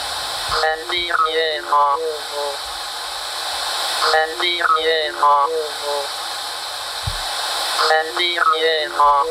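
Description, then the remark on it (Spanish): A psychophony-style recording made in answer to a question: a garbled, voice-like fragment repeats three times, echoing, buried in a constant loud hiss of static that fills the whole recording. “En cualquier caso, algo sí pensamos que ocurrió y coincidió con la grabación de esta psicofonía que dice esto, a la pregunta.”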